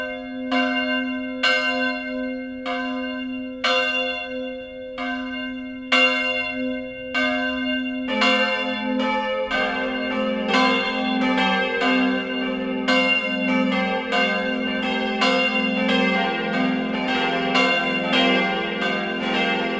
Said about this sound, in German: Es ist 12 Uhr. Das Mittagsläuten kommt heute von der katholischen Pfarrkirche St. Stephanus im mittelfränkischen Adlersdorf.